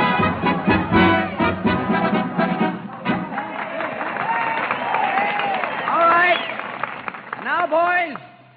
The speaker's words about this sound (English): sometimes before cheering Notre Dame men at mammoth campus rallies, when the big blue and gold pennants fluttered from the ceiling and the band played in the crowded hall.